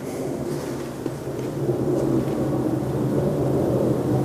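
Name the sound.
airplane flying low overhead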